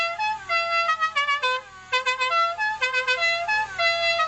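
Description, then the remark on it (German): A modified car horn plays the melody of La Cucaracha: a quick, bouncy tune of distinct loud notes in a rapid rhythm, bright, with a brief pause midway before the tune continues. “Die Hupe zum Beispiel lässt sich so verändern, dass die Melodie von La Cucaracha ertönt.”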